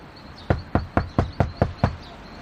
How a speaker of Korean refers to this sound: 나는 나무 문을 몇 번 두드렸다.